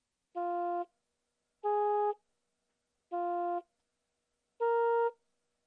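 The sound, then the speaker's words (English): A series of four steady harmonic test tones, each about half a second long, evenly spaced with silent gaps, the pitch shifting slightly from tone to tone, the last highest. Tones like those Schlaug played to musicians and non-musicians while watching their brains with MRI. “Using magnetic resonance imaging, or MRI, Schlaug watched the brains of musicians and non-musicians as they listen to a series of tones like this.”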